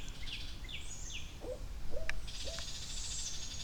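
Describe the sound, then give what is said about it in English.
Two owls give three short, soft hoots in quick succession against steady outdoor ambience, while small birds flying up to hassle them chirp and twitter throughout, with no one speaking. “Wow, I wish there was some light here, because we just got these two owls hanging out, and now little birds are flying up and trying to hassle them.”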